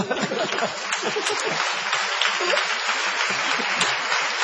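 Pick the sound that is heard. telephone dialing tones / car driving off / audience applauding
audience applauding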